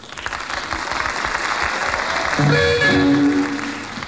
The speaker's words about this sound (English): Wollen Sie die Leute hören? Come on, clap your hands again. Come on, tap your feet.